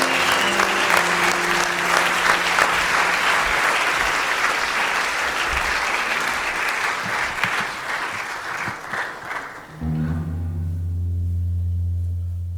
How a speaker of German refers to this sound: Ein kleiner Applaus vielleicht nochmal für die Künstlerin